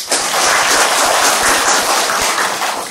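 A crowd claps steadily for a few seconds, dense overlapping handclaps forming a loud, sustained wash of applause, with no voices rising above it.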